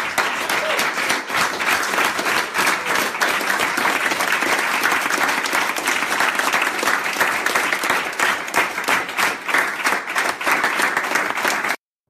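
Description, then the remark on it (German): A group of participants applauds steadily, dense overlapping claps at an even, loud level that sustain for about twelve seconds before stopping abruptly. “Riesen, riesen Applaus an euch.”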